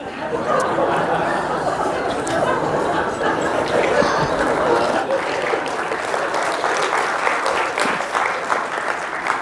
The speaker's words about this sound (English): Don't feel obliged to get into that clapping habit, because then if you don't clap, I mean, sometime you're not going to want to, and then you're going to feel like you have to. It just creates a big mess, so don't do it, okay?